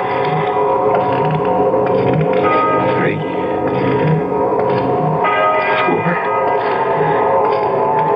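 A deep church bell far off in the distance strikes the hour, tolling several slow, evenly spaced strokes, each ringing out with a long humming resonance that blends into the next, loud and full throughout.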